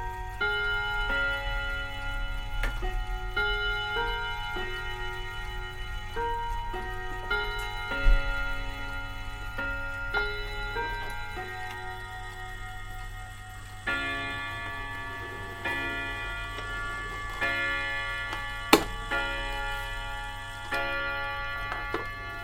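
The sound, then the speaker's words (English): A clock chimes its full hourly chime, a long, ringing melody of overlapping bell-like tones, each note sustaining and layering into a shimmering wash, with steady ticking faintly underneath and no voices. “And that does the full chime an hour.”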